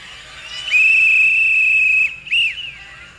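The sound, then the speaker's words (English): A loud, shrill blast from a coach's whistle holds steady for over a second, then a second shorter toot follows after a brief pause, piercing with no voices over it. “that very whistle you just put to your lips, shine it up real nice.”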